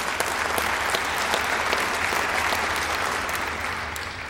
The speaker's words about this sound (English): And yes, you may clap.